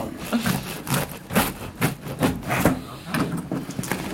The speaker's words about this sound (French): Donc là, on y va, on ouvre la porte du four, tu vois, et on va sortir le pain.